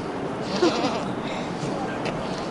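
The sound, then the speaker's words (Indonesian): Goats released to graze on weeds in Royal Park, Melbourne, Australia, bleat a couple of times, short, over a steady outdoor hiss with some faint indistinct background murmur. “Sekawanan kambing kini dilepaskan di Royal Park di Melbourne, Australia.”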